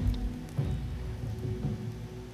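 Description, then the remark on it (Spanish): Steady rain falls on the ground, a dense hiss of patter with a low rumbling undertone and a couple of slightly heavier swells, with no voices. “Después de tanto tiempo, el pueblo de Israel no había oído el sonido de la lluvia tocar el suelo, no lo habían escuchado.”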